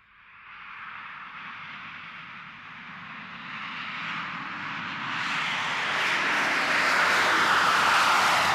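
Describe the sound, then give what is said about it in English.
An airplane engine roars steadily and grows louder, its broad hissing rush swelling over several seconds as if the plane is taking off. No voices are present. “Is this plane ready for takeoff yet?”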